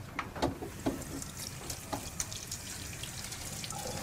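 Water runs steadily from a tap whose fitting is said to need Teflon tape, with a soft, continuous hiss, broken by a few brief clinks and splashes. Fairly quiet, with no one talking.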